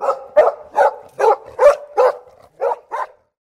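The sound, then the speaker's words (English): A dog barks eight times in a steady, fairly quick rhythm, clear, with the last two barks a little softer and then silence. “And there's the dog.”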